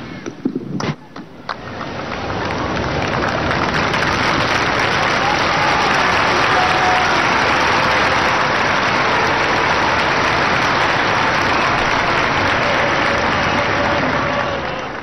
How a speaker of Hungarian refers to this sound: A Szent Péter téren jelenlevő számos zarándok a mai napon is tapssal köszönte meg Ferenc pápának a szavait, valamint az áldását.